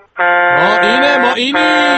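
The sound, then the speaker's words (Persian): A loud, blaring truck air horn sounds in one long continuous blast that runs nearly two seconds, its pitch dipping and wavering slightly partway through. “نوکرم سامی، بوق و برو بوق کامیونیو”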